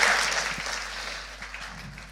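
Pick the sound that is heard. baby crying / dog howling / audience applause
audience applause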